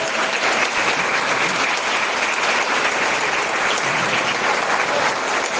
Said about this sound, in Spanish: Agradecer al grupo de padres de la Asociación Civil Todos al Agua, que trabaja muchísimo y también le vamos a pedir un aplauso para ellos.